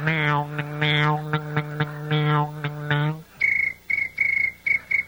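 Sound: crickets chirping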